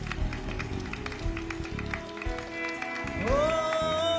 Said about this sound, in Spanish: Aplauda, si va a aplaudir, aplauda con fuerza.